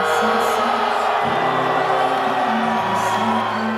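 A large audience boos in a sustained, loud roar of crowd noise that never lets up, with low sung or musical tones faintly running underneath.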